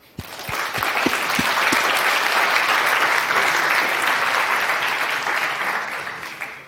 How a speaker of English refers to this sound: And the last talk is going to be about how to build a smart reverse proxy in Go. So round of applause.